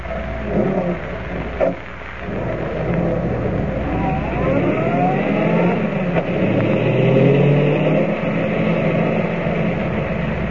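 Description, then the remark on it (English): A car engine runs steadily, then revs and rises in pitch as the car pulls away and accelerates, driving up to an abandoned gold mine, a loud, continuous rumble with no voices. “We're driving up to the old mine.”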